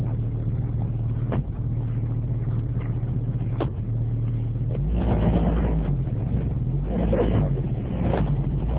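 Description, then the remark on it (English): A car assembled at a factory in Ghana hums steadily as the Minister of Environment, Science, Technology and Innovation, Mahama Yar'Adua, takes it on a test drive, then surges louder partway through as it accelerates, with a low rumbling drone throughout and no voices. “The Minister of Environment, Science, Technology and Innovation, Mahama Yar'Adua, who toured the factory, had this to say after he had a test drive in one of the cars.”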